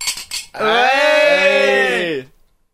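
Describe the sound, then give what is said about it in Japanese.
A quick cluster of bright glass clinks, as in a toast at a second-round drinking party, followed at once by a long, loud drawn-out vocal sound that carries on for nearly two seconds before stopping. “とりあえず、うん、乾杯しよう。”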